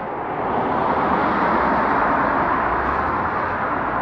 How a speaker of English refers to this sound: You want just background noise? I have the beautiful sound of cars driving by.